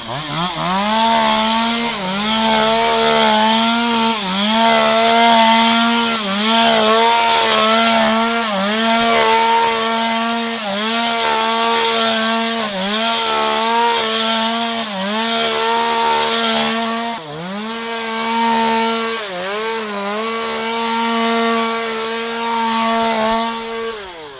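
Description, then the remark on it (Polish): A loud chainsaw runs steadily while cutting back a hedge, its engine pitch dipping and rising repeatedly as it bites into branches, with no talking over the continuous roar. “Jak słychać, piła poszła w ruch.”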